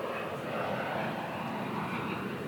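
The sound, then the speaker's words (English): A steady, broad engine roar of an airplane passing overhead, continuous and fairly loud throughout with no voices present. “I don't think that's his plane, is it?”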